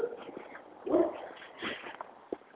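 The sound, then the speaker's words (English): A dog behind a fence barks several times at irregular intervals, sounding somewhat muffled, with a faint yelp among the louder barks and no talking. “I'm going to cross the street because that dog is out.”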